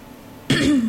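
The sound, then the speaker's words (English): A single abrupt cough with a rough throat-clearing rasp from a person with a frog in the throat, starting sharply after a brief quiet moment and trailing off with a low guttural rumble. “Excuse my coughing.”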